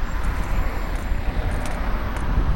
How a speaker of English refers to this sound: And there's a car coming up behind me.